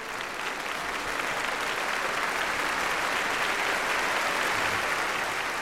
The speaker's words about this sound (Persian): سالن از صدای تشویق می لرزید و منم می لرزیدم و اون روز رو هیچ وقت فراموش نمی کنم.